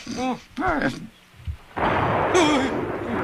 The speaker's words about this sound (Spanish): A veces a mí me dan miedo estas tormentas, Beto. A ti no. Yo no necesito mucho para asustarme. Ay, Enrique. Las tormentas con truenos son algo ruidosas, pero ¿sabes qué tienen de bueno?